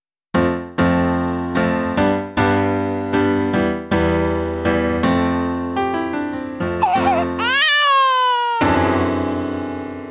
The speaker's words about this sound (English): Sudden and startling as a shot came the splitting cry of a baby who didn't want to go to bed.